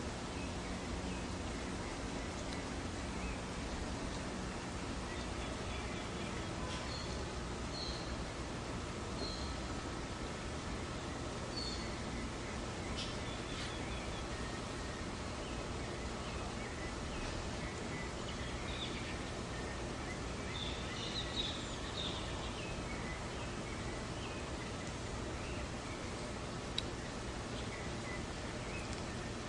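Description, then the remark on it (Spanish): Faint, distant birdsong chirps now and then over a steady outdoor hiss, with scattered calls that never come close or grow loud, heard from a hotel room balcony at the Hotel Gran Jalapa. “Aquí estamos tomando el fresco aquí y escuchando los pájaros, vamos a ver si se escuchan.”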